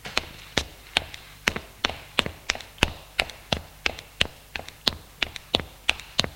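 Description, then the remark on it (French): Quick, regular footsteps tap out a steady rhythm, about three per second, each a sharp, crisp hit over a low hum, as someone enters an apartment building and climbs the stairs to the third floor. “Monte aux étages.”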